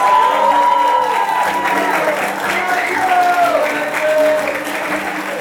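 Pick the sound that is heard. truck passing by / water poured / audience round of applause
audience round of applause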